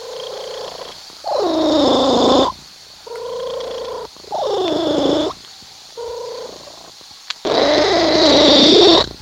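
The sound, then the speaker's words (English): A cat purrs loudly in long rumbling pulses that alternate strong and softer breaths, with a raspy, almost vocal edge to each swell. “That's her cat purring.”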